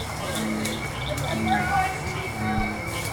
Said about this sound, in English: As the sky turns dark and the barely worn path is lit up by headlamps, more and more frogs start to sing.